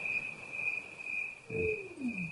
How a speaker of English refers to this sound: This is an actual recording of an ocean with real crickets and some birds and whales.